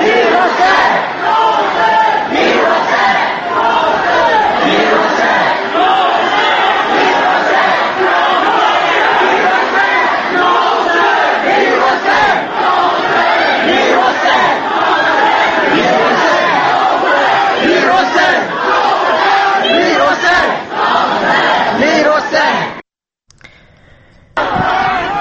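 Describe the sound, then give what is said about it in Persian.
A large crowd of protesters at Sadeghieh Square in Tehran chants slogans for a referendum and "Ya Hossein, Mir Hossein" in unison, a loud, dense roar of many voices with rhythmic surges, continuing steadily for over twenty seconds before cutting off abruptly near the end. “در فلکه صادقیه تهران معترضان شعار برگزاری رفراندوم و یا حسین میر حسین می‌زدند.”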